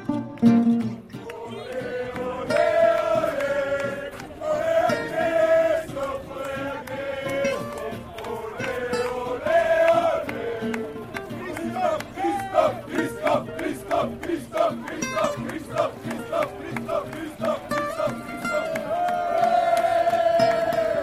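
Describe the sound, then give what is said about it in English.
A crowd of Norwegian supporters just outside Nancy chants and cheers together in the morning for cyclist Alexander Kristoff, voices rising and falling in loud, rhythmic unison for about twenty seconds without a break, with shouts layered over the steady group singing. “We opened there with the sound of the Norwegian supporters in Nancy this morning, or just outside Nancy, cheering for their man Alexander Kristoff”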